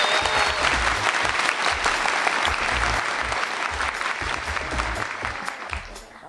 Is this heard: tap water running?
no